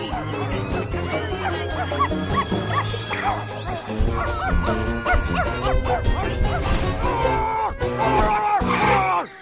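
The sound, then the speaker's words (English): A person imitates a dog while chasing someone, letting out a rapid series of loud, yappy barks and yips over a dense, busy musical background that continues throughout. “Was that your dog barking?”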